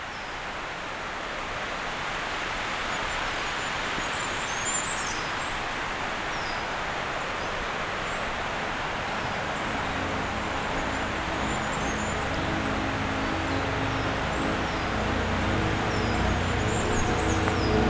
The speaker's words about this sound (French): On s'est juste éloigné un peu du torrent. À l'écart de ce dernier, des oiseaux timides surgissent.